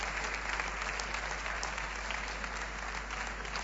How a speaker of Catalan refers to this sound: I en aquests moments els aplaudiments per l'actuació